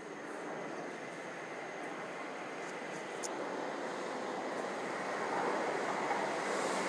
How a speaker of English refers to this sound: Right, this sounds like the fast train. Good, good. We shall get on that.